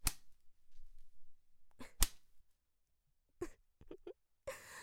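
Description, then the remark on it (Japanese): Several sharp, loud cracks of a fine, costly whip ring out, spaced irregularly with brief silences between them, followed by a short burst of noisy rustling at the end. No one speaks. “だから出し惜しみせず、とってもいいムチを用意したんだから。”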